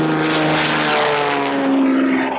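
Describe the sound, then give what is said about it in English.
A crop-dusting propeller airplane flown by American pilots in Libya buzzes loudly and steadily over oat and barley fields, its engine droning in layered harmonic tones that bend slightly in pitch as it passes. No voices. “But they are there, not flying military missions, but buzzing the oat and barley fields.”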